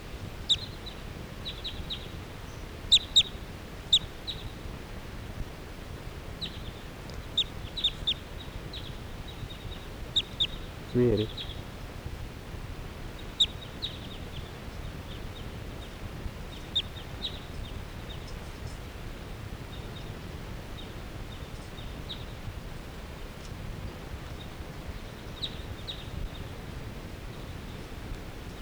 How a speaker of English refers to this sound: So recording, the flock is flying away. This is 380. And now the birds are just generally flying in the air around here.